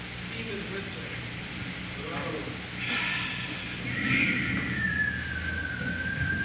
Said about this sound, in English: Listen, the steam is whistling.